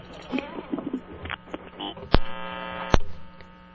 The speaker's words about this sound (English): I love that sound the phone makes when it disconnects, that buzz, that short little buzz to let you know it's all over. And then it just sits there buzzing at you some more.